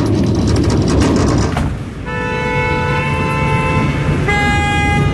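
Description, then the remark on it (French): A loud car horn blasts in a long, steady honk over rumbling traffic noise, then shifts to a second sustained tone just before the end. No one speaks. “Ça klaxonne pas.”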